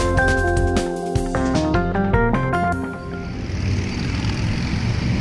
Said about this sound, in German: So klingt Brasilien Verkehr und Meer. Jedenfalls in den großen Küstenstädten sind das die dominierenden Geräusche.